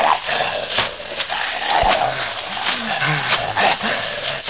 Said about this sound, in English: Come on, big dog. I just want to get my hands on you. All right, big dog with the big voice. Come on out in the clearing.